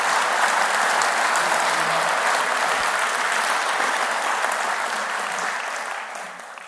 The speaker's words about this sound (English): I'd appreciate just a round of applause for him right away. So thank you.